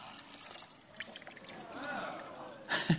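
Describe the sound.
Pond water is poured steadily into a container of water, a continuous splashing gurgle whose pitch rises as it fills, with a brief voice breaking in at the very end.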